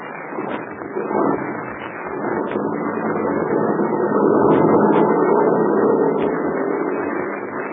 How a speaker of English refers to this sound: The heavy truck was started. It pulled away from the headquarters of the red-whiskered Captain Blaze, lumbered down a narrow mountain road toward a river that cut through a narrow gorge.